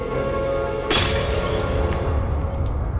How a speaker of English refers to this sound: Tom runs into the sitting room where the tray lies smashed on the floor.